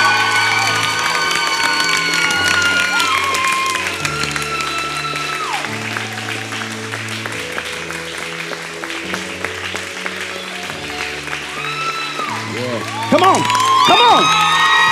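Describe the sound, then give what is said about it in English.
A church audience bursts into loud, sustained applause and cheering, with dense clapping, shouts and whoops, and a sustained musical chord underneath that swells near the end. “Now I want you to give them the loudest applause that you've ever given them in their whole life.”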